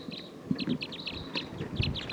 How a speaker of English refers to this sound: There's a lot of bright red males in the flock. And some females too. Stop. It's recording wild bird. This is a wild flock.